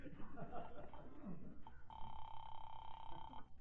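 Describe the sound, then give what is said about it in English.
A telephone is dialed with a burst of rough, clattering noise, then a single steady ring sounds clearly for about a second and a half before cutting off. “The least I can do is call and find out if he's been trying to get me.”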